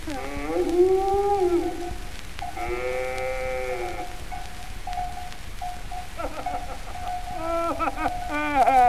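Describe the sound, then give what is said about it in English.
Suki the cow moos several times in a row, long drawn-out calls with a wavering, bellowing tone, loud, with no talking in between. “Ah, sure, it's Paddy Flynn, and with him, Suki the cow.”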